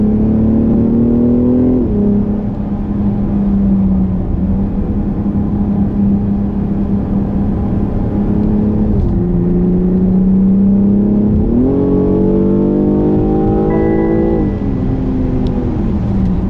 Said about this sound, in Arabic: فعلا البي ام عطتك جيب يحسسك كأنك في سوبرا. صوت، استجابة محرك، لمسة بريك، الشيفتنج في الجير ولا أروع